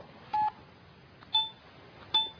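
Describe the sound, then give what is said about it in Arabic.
Three short electronic telephone tones sound in quick succession, like keypad dialing beeps, each brief and clear over a faint background hiss with no talking. “لا أنا أقولها لحضرتك بس عشان صوت التليفون.”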